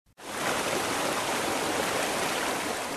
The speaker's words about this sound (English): The Alamosa River in south-central Colorado flows east from the San Juan Mountains toward the mighty Rio Grande.